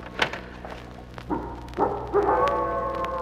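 A wolf howls, starting with a couple of short rising yelps before breaking into a long, sustained, wavering howl, preceded by a brief dull thump.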